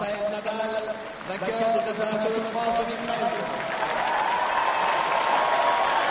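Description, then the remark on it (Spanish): A large crowd on the Philippe Chatrier court at Roland Garros 2013 gives Rafael Nadal, the winner, a sustained ovation in the rain, dense applause and cheering that swells louder in the second half, with a voice talking over the noise early on. “Se está haciendo algún lío que otro y se lleva la ovación.”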